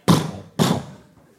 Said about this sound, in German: Plötzlich klopfte es an der Tür.